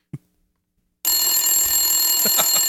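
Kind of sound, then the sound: household object, telephone ringing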